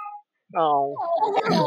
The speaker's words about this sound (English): That sounds like the kind of noise a cat only makes when there's no one else in the room with them.